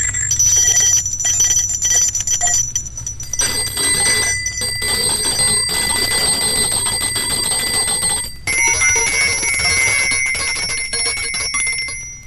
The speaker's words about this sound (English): Let's begin with a very tiny bell and listen carefully and see if you can tell when a new bell is being sounded.